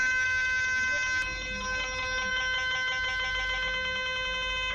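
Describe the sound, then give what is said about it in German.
A loud MRI scanner runs a common imaging sequence, a harsh, steady electronic drone of stacked tones pulsing in a fast, regular beat throughout, with no talking over it. “Oh ja, hier ist eine übliche Sequenz. Da fallen einem die Öhrchen bald ab, aber dazu bekommt der Patient natürlich auch ein paar Ohrstöpsel und noch ein paar Kopfhörer zum Schutz, denn die ist sehr, sehr laut, die Sequenz.”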